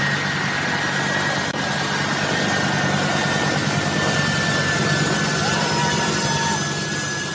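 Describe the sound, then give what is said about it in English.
A loud, steady airplane engine roar at Kabul airport fills the whole stretch, with a high whining tone running through the rumble and no break in the noise, while a crowd of people runs. “They're not even looking at the plane.”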